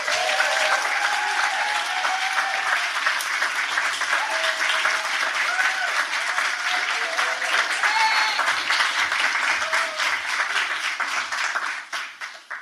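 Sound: audience applause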